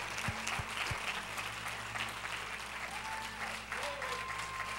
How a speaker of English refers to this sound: And we appreciate you so very much. Oh, it's rude to sit while people are still clapping for you.